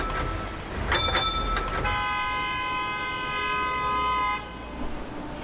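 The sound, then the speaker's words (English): Street traffic rumbles in Hong Kong as a few quick clanging tram bell strikes ring out, followed by a long, steady car horn blast from a frustrated driver lasting a couple of seconds before the street noise settles again. “So let me take you to the streets of Hong Kong, where the only music from the vehicles are the bells of the trams and the horns of frustrated drivers.”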